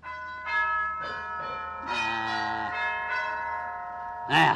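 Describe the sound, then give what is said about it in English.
An electric gong doorbell, tested by pressing its push button, rings out in several bright, metallic strikes with long humming overtones, one tone overlapping the next, ending in a sharper clang near the close. “I'm going to rip that whack-wacky gong box off of the wall.”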